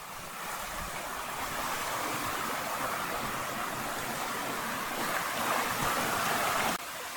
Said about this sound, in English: You can still hear Coppermine Brook, which is hugging this trail.